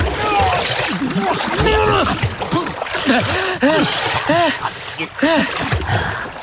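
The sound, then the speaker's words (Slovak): Heavy, continuous splashing and sloshing of water as a person knocked into the water by a tree branch thrashes in it, with agitated voices calling out over the commotion. “Ten hnusný stromisko ma zhodil konárom do vody.”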